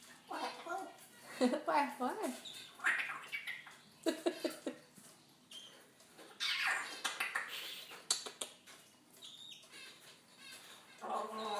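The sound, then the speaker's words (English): A pet bird named Smoky squawks and chatters in a busy string of harsh bursts and bright whistled notes, some rising and falling like voice-like babble, fairly loud throughout. “Smoky bird.”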